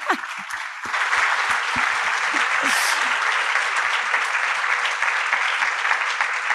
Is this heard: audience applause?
yes